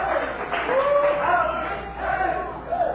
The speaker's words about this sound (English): You didn't hear what I said. You're shouting too loud.